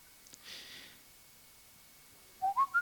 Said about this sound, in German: Wer pfeift denn da so schön? Ah, cool. Also, wenn jemand pfeift, wisst ihr Bescheid.